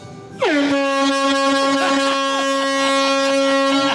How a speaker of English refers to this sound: I think that air horn is still ringing in my ears. Yeah. I've still got tinnitus about that.